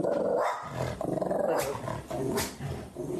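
dog barking

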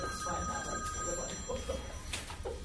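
cell phone ringing

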